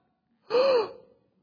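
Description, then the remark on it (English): A single sharp, breathy gasp voiced by a person imitating shock, rising quickly and fading into a short exhale, with silence around it. “The audible gasp.”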